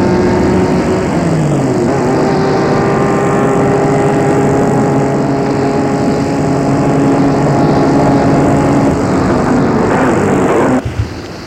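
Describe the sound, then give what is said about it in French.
A black car arriving on a road, its engine running loud with a steady droning hum, its pitch shifting briefly near the start, before the engine cuts off abruptly just before the end as the car stops. “Gilles voit arriver sur la route une voiture noire.”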